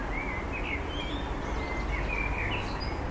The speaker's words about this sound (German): Lange bevor der Verkehrslärm einsetzt, hallt der Gesang der Amseln durch das Tal.